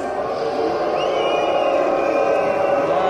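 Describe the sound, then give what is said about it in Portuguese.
A large crowd in Nice, France, boos French Prime Minister Manuel Valls loudly and continuously as he arrives at a seafront ceremony for the victims of the truck attack, a dense wall of jeering voices sustained for the whole few seconds with no pause or single voice standing out. “Ao chegar para a cerimônia, o primeiro-ministro francês, Manuel Valls, foi recebido com vaias.”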